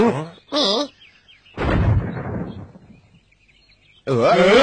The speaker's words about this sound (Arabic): المدفع الذكي. لا سمعك جيد. إنه المدفع. انتبهوا.